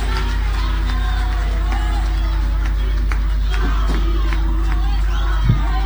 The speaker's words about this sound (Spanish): Un aplauso para el señor del Güiro.